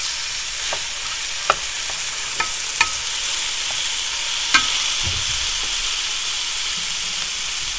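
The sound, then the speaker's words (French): Steady, bright sizzling of food frying in a pan, with occasional sharp pops and crackles scattered irregularly through the hiss. No one speaks. “C'est la première fois que je prends du sonore en crépitement, hein.”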